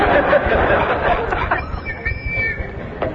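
crowd, crowd cheering

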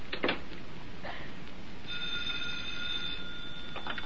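household object, telephone ringing

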